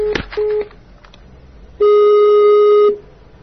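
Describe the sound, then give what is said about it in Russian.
A sharp click as a telephone receiver is hung up during a call, then a short electronic beep and a longer steady telephone tone, loud, with no talking. “Какого тебе хуя нужно, ну что прям как дети мало, я вам предложение отдельное, а вы трубку кладете.”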